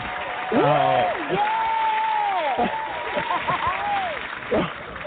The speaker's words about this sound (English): Ooh, I'm going to kill y'all for the hand clap.